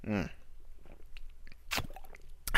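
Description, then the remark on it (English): A quick drink of water from a plastic Diet Coke bottle: soft gulping and wet mouth noises, with a couple of sharp plastic crackles near the end, after a brief vocal sound at the start. “And I need a sip of this delicious water that's in a Diet Coke bottle.”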